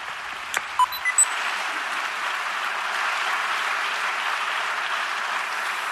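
An audience at the COPE Aragón Valores awards 2024 applauds Miguel Ángel Tirado (Marianico el Corto) for his special award, steady dense clapping that holds evenly for the whole stretch, opened by a few brief electronic beeps at the start.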